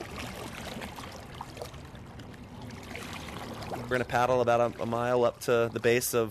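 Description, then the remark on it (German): Steady water sloshing and splashing from a kayak being paddled along the Willamette River toward the lower part of Willamette Falls, continuous for several seconds before someone starts talking over the watery background. “Wir paddeln jetzt etwa eine Meile, bis wir am unteren Teil der Willamette Falls sind.”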